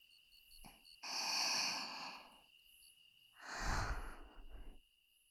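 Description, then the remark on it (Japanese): Two slow, soft breaths from an older-sister character exhaled very close to the listener's ear, each a gentle airy rush lasting about a second, separated by a brief quiet pause. No talking. “お姉ちゃんの吐息、耳元に気持ちいいね。”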